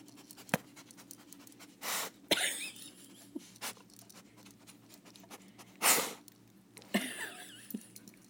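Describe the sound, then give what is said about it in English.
A dog sniffs around the floor by a desk for peanut butter-scented treats, making several short, breathy snuffling bursts at irregular intervals, with faint scuffing in between and no voices. “He's sniffing the area by my desk where the treat not even was.”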